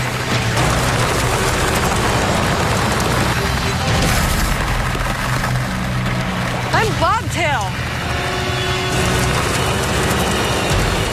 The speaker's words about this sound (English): Oh yeah, she's a cracking. That reminds me of like gunshots. You can hear it crack and then you can hear it go up the ice.